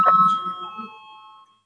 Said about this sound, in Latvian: Lūdzu zvanu, balsosim par 13. juridiskā biroja priekšlikumu. Lūdzu balsosim.